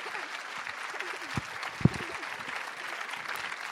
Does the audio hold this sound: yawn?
no